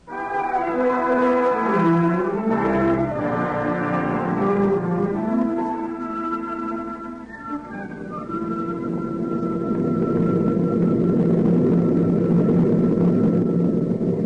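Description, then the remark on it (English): A steady, loud droning engine hum from an aeroplane in flight bound for New York fills the whole stretch, its layered tones bending slightly in pitch before settling into a continuous, even roar. “I am writing this on the aeroplane, and we'll mail it to you when we reach New York.”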